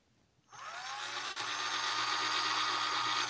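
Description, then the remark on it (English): A power saw whirs to life after a brief quiet and runs at a steady, loud, high-pitched whine with a low hum underneath, dipping for a split second partway through before continuing. “Do you have a saw to massacre people in your bedroom?”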